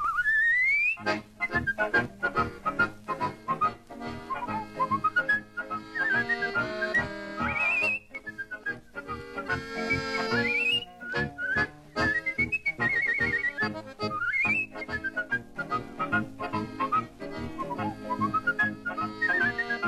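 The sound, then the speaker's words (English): A man whistles a lively, trilling tune with quick rising slides and warbling runs, loud, over a steady instrumental accompaniment with no talking. “Milwaukee's favorite listener and whistler.”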